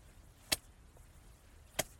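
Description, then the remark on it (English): Two sharp, stinging hand slaps (spanks) on a butt, spaced over a second apart, each a crisp smack standing alone against a quiet, faintly hissy background with no talking. “Do you like mistress's stinging slaps on your precious little butt?”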